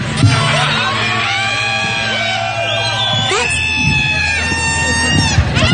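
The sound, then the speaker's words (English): A crowd yells and whoops loudly and continuously right after a New Year's Eve midnight countdown, several voices overlapping in drawn-out shouts and cheers that swell and rise in pitch. “Sounds like you're yelling a lot to me.”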